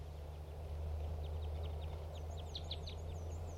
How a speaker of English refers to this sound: These are wild birds calling, the ones in the trees.